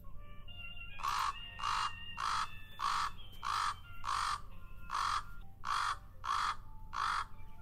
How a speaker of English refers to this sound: There's that raspiness of the raven. Yeah. It's a croak. Yeah. A little bit more of a throaty rattle call compared to that softer cawing that we hear out of the crow.